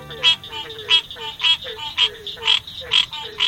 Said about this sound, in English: It's morning in the Okefenokee National Wildlife Refuge, land set aside to protect the fabled Okefenokee Swamp of Georgia and Florida. With so much water, it's not surprising that frog calls surround us.